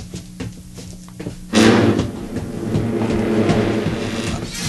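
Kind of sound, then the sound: household object, knocking on a door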